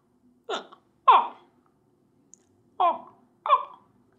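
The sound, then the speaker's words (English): A person imitates her dog's yawn with four short, squeaky, whiny vocal bursts in two pairs, each sliding downward in pitch, fairly loud with brief silences between. “She yawns like that. She goes...”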